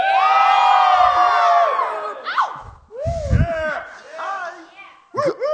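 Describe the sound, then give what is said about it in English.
A church audience erupts in loud, overlapping shouts and cheers in answer to the preacher's call to shout, many voices rising together in sustained bursts that swell, dip briefly, then surge again for several seconds. “Somebody shout.”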